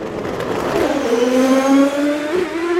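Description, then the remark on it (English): High-revving sports car engines, Ferraris and Porsches, scream past on a racing circuit of about two miles, their pitch rising and sliding as they accelerate and shift, loud with no talking. “we have sports cars, Ferraris and Porsches in a different race”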